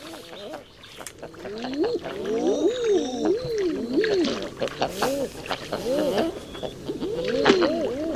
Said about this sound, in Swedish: Ja, men det här är ju Eider. Och det är inspelat av Thomas Bergman. Och vi hör både gudingarna, hannarna som säger ooh.